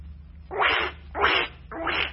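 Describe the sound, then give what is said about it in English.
A broken squeeze toy duck wheezes three times in a steady rhythm, each squeeze a breathy, raspy hiss of air with no clear squeak, over a low background hum. “What are you doing to that duck? It's broken.”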